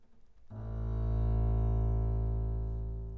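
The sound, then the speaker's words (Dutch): A deep bowed double bass note swells in after a short pause and holds steady, rich and resonant, sustaining loudly to the end with no other sounds. “En de grootste strijker, de contrabas met zijn warme, diepe snaar.”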